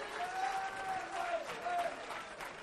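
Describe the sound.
An audience claps together in praise in a dense, steady wash of applause for the whole stretch, with a few raised voices carrying over the clapping.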